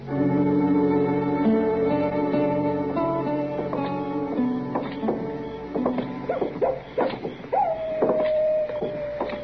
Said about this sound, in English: Listen to that miserable old coyote, Mr. Dillon. Did you hear him?